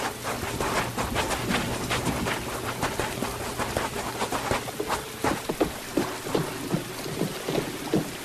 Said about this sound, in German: Gleich bricht der Sturm los.